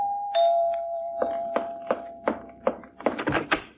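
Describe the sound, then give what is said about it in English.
A doorbell chime rings out with a sustained, clear tone, then a quick run of sharp knocking thuds follows, moderately loud, with no voices. “They left the matter there, but the next day the doorbell rang.”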